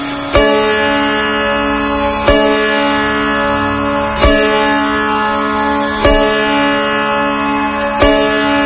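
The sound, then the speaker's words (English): Sitar drone strings, struck to emphasize the tonic, ring out alone, a bright sustained shimmer struck again every two seconds or so in a slow, steady rhythm, each pluck renewing the buzzing resonance at a moderate volume. “Different styles of sitars may be found, but generally only 2 to 4 strings provide this drone. The sound of this drone strings is like this.”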